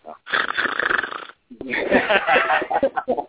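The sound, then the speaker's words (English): A man's voice imitates snoring with two long, rattling, nasal snorts separated by a short pause, the second one rougher and more drawn out, ending in a few sputtering bursts. “Yeah, snore a little bit for us”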